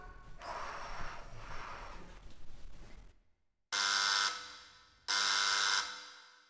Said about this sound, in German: Da ist die Tür und da oben die Klingel. Da müsst ihr nur drauf pusten. Dann klingelt es. Ich klingel mal.